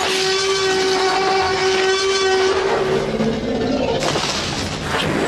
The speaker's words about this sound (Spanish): Película Parque Jurásico. Diseñador de audio, Gary Rydstrom. Sonido, el rugido del tiranosaurio.